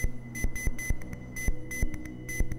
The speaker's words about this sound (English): And with advanced computers, you can hear these things buried in the endless hiss of the universe. You can hear a dunk, dunk, dunk from the rotating pulsar signal.